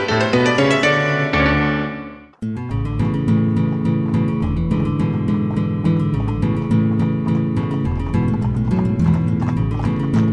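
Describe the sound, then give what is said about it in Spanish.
Hooves clip-clop steadily on a hard road as an old, tired donkey carrying cloth and bundles and a horse walk along toward a village, the regular beat continuing over a layer of music. “Llevaban varias horas de camino y el viejo burro estaba cansado.”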